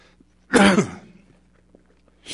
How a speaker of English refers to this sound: Can you go get some water out of the water fountain? I've been fighting a cough, so.